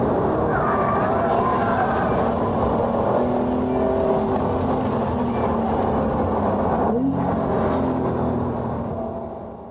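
A Porsche 911 GT3 sports car roars on a race track, its engine straining loudly and steadily, pitch rising and dipping as it drifts through turns, then easing off toward the end.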